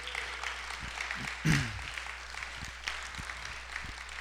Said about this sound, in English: And yeah, you can clap for her.